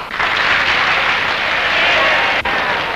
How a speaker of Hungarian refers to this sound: Kérlek, fogadjatok bennünket szeretettel, és tapsoljatok.